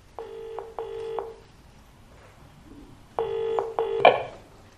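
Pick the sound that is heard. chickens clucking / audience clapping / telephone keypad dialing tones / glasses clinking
telephone keypad dialing tones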